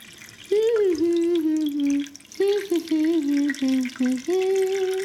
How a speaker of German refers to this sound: Schaut da, sie gießt gerade. So, meine lieben Blumen, nun könnt ihr kräftig wachsen und gedeihen.